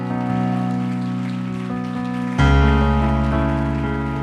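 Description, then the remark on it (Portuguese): A church audience applauds God during a sermon in a steady, crackling patter beneath loud sustained keyboard chords, which shift to a fuller, deeper chord about halfway through while the clapping continues. “Pode aplaudir ele por isso.”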